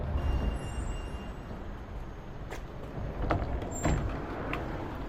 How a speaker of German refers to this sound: Ich steige aus der Straßenbahn aus und schaue auf eine riesengroße Brache.